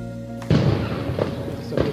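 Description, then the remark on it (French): A sudden explosion bursts out from a quiet hum in a cordoned-off neighbourhood where an armed attacker is barricaded in a house, followed by a rolling low rumble and two weaker thuds echoing afterward. No one speaks. “Le quartier est bouclé et à l'instant, on entend une explosion.”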